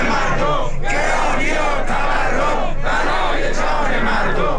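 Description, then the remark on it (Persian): A large crowd of retired Social Security Organization pensioners chants loudly in unison at a Sunday rally protesting their living conditions, held in Iran outside parliament in Tehran and outside governorates in other cities; voices rise and fall in repeated rhythmic phrases with brief gaps, dense and continuous. “و بازنشستگان سازمان تأمین اجتماعی روز یکشنبه در اعتراض به شرایط معیشتی خود در تهران در مقابل مجلس و چندین شهر دیگر در مقابل استانداری‌ها تجمع کردند.”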